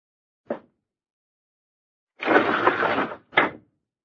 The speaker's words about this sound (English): Anything else you want of me besides opening this window, Uncle?